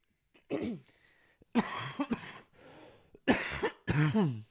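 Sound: coughing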